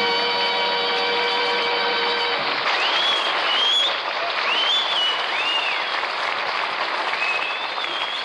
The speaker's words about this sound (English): The crowd is going mad as he comes down here. Watch this man come down here.